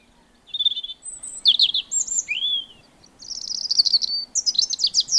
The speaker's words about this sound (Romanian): Dar măcăleandrul continua să cânte fără să-l bage în seamă pe Cani.